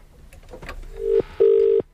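telephone call ringing tone

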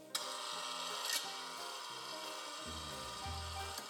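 creaking door opening

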